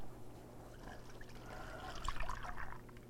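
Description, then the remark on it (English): Milk pours steadily into a bowl for a few seconds, a soft continuous trickle and splash that swells slightly toward the end, with a low background hum. “We can just pour the milk in and then whisk.”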